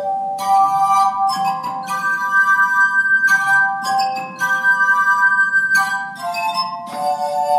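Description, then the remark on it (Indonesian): Sustained, shimmering tones of a glass harp played by visitors on its largest glasses, several pitches ringing and overlapping as new notes are rubbed into sound in slow succession, with a soft low hum underneath and no voices. “Sejumlah pengunjung menikmati kesempatan untuk memainkan gelas-gelas terbesar.”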